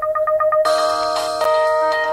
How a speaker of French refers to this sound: Tu sais, quand le téléphone ouvre, parce que les iPhones, puis tout ça, quand ça ouvre, ça fait pas de son. Là. Ouais. Mais les anciens téléphones, ça faisait une mélodie pas possible. Alors, je l'ai testé il y a quelques secondes.